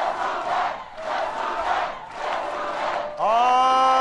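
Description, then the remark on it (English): A large crowd at a rally where Democratic hopeful Barack Obama stood before them during the primaries cheers and roars in three loud swelling waves, then breaks into a sustained, pitched unison chant that rises slightly and holds at the end. “Even as the votes were still being counted in yesterday's primaries, the Democratic hopeful Barack Obama stood before a large crowd underlining the need for change.”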